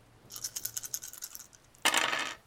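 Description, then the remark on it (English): Seven dice rattle in a quick series of light clicks, then spill out in a louder, dense clatter that lasts about half a second. Fairly loud, with no talking. “give me a roll. You guys are at 7 dice now.”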